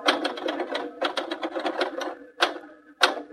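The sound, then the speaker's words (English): Rapid, steady clatter of typewriter keys in a quick burst at a newspaper city desk, typing a banquet story, followed by a pause and two louder, sharper strikes spaced apart. No voices. “You finished typing that banquet story yet?”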